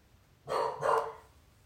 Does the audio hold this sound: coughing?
no